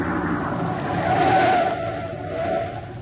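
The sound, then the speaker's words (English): A truck engine rumbles as the truck drives up and stops, the broad noisy drone swelling briefly before easing off near the end, with no voices. “We leave the truck here. It'll never be seen.”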